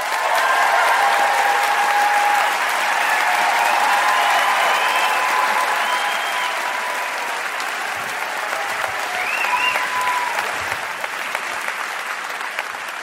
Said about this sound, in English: Look at that applause you got. Look at that.